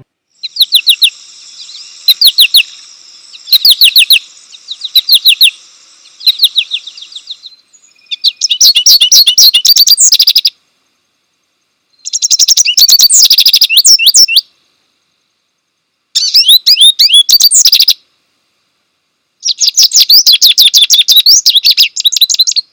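American goldfinch, the Washington state bird, calls and song: short bright chirps at first, then loud bursts of rapid twittering warbles repeating in phrases separated by brief silences. No voices.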